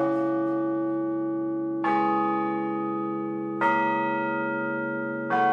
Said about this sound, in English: The ringing of bells is common enough.